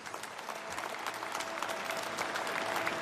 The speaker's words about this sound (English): Applause for Dikembe Mutombo at the Basketball Hall of Fame.